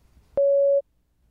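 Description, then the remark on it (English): A single steady electronic beep signalling when to prepare an answer, about half a second long, at a clear mid-high pitch, starting with a soft click and stopping abruptly, with near silence before and after. “Please prepare your answer after the beep.”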